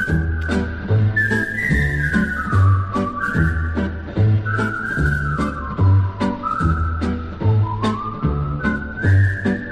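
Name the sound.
whistling a melody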